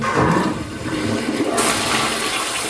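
toilet flushing

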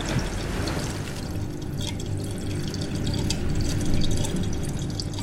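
water trickling

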